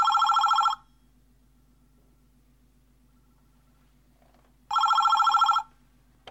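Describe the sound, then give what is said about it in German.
A telephone rings twice, each burst under a second long with a buzzing, warbling tone and harmonics stacked upward, separated by several seconds of quiet with a faint low hum underneath. “Und siehe da, zwei Tage später bekommt er einen Anruf.”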